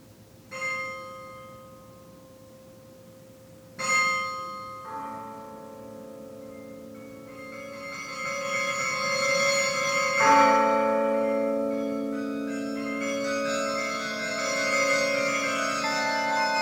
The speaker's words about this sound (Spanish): Las campanas más alegres de Europa, tocadas por los músicos más altos del viejo continente. Bien instalados en sus campaniles, a 65 metros de altura, contemplan el atareado vaivén que se mueve a sus plantas.